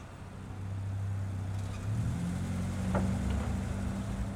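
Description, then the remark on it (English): The engine of a black Mercedes-Benz car hums low and steady, growing a little louder as the car pulls up, with no voices over it. “Can I get your car, sir? Sure, it's the black Mercedes-Benz.”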